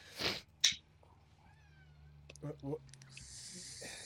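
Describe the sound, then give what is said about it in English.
A male ragdoll cat vocalizes in the room: a thin, drawn-out meow rising in pitch. Short breathy, hissy bursts come before and after it. The sounds are fairly quiet. “your cat is an asshole.”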